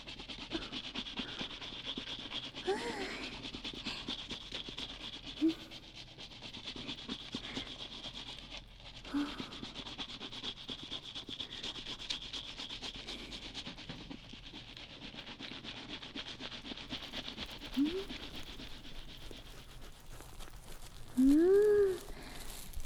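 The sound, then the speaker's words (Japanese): Continuous wet, foamy scrubbing of lathered shampoo through hair, a steady soft rubbing and squelching texture, with a few brief voiced murmurs rising in pitch scattered over it. “このシャンプー、泡立ちすごいですね。ほんと、もちもちしてます。”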